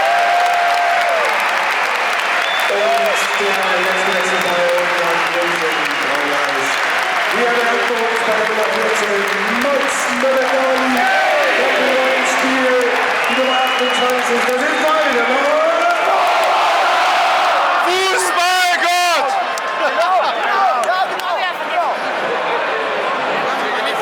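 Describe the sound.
A big stadium crowd at a football match applauds a player of the team, a dense, steady roar with many voices cheering and chanting over the clapping. The noise stays loud for the whole stretch and swells briefly near the end.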